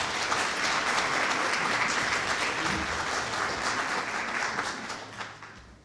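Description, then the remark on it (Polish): Sustained audience applause, a dense crackle of many hands clapping at once, holding steady at full strength before thinning and fading out in the last second. “Gorące brawa, drodzy państwo.”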